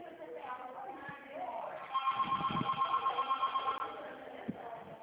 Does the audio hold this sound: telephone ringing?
yes